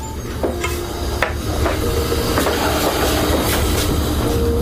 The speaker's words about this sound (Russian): Заварити чай і зараз ціла історія. Ось дивіться, як я воду заливаю.